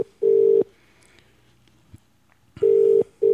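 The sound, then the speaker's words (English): A telephone ringback tone heard on an outgoing call to Great Britain: a steady mid-pitched ring in short bursts with a long pause between them, clear and fairly loud, with no one speaking. “give Danny a call and see what's going on. Well, here we go. At least it's ringing.”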